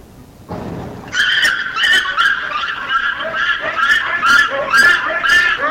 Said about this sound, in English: Scream vocalizations, first by a bonobo and second by a chimpanzee. Very high, piercing sound from bonobo. Almost sounds like a bird.